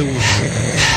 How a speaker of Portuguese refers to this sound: Estavas com tosse, não é?